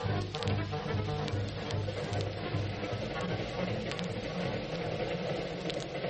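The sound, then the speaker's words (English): A crowded passenger train with sleeping berths rolls along steadily, its deep continuous rumble and low mechanical drone filling the space, with faint rattles and clicks ticking over the top throughout. “And speaking of trains, well, how about this train?”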